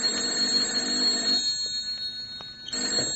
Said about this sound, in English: Then my phone shrilled.